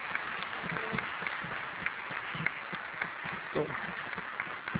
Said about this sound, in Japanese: それでは、ミスターレイモンドさんに温かい大きな拍手で、お送りいたしたいと思います。今日はどうもありがとうございました。